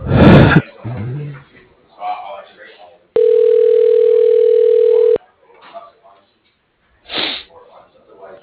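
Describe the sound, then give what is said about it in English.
A loud, steady telephone tone holds for about two seconds while a call is transferred to a cell phone, set between muffled voices and short breathy bursts of noise before and after. “Okay, hold one, please, as I transfer you.”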